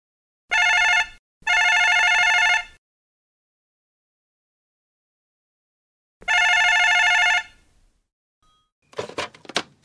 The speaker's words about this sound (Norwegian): En dag ringer telefonen.